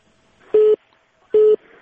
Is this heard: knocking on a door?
no